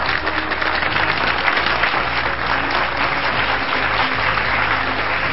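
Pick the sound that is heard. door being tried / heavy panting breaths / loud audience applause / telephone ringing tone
loud audience applause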